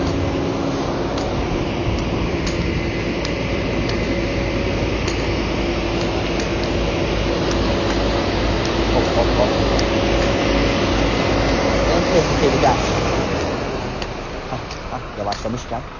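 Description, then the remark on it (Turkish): A garbage truck collects trash on a road at Boğaziçi University's North Campus, with a steady, loud engine rumble and droning hydraulics. Scattered clanks and rattles sound as trash is collected, easing off slightly near the end. “Çöp alıyor kamyon. Bu beni çok korkutuyor arkadaşlar.”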